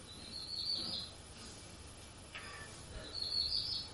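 Faint bird chirping in two short bouts, one near the start and one near the end, with quiet ambient outdoor background in between and no voices.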